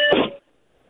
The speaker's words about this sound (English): We heard some beeping there. Yeah, that's an ominous sign. Sounded very urgent.